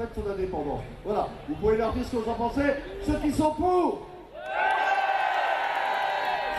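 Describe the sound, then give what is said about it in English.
A single voice, a compere, speaks for several seconds, asking the crowd whether they favour Scottish independence, then a large crowd bursts into loud, sustained cheering and shouting that continues to the end. “And when it comes to independence, well, the compere put the question to the crowd. Were they in favour?”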